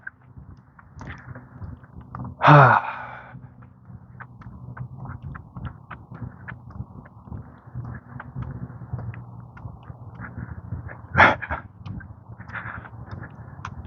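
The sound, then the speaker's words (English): A small dog with a lady gives two short, sharp yaps about nine seconds apart over a steady outdoor rumble with no one talking, on a mostly cloudy morning; the dog did not want to walk on the grass. “Lady with a little dog. Little dog did not want to walk on the grass.”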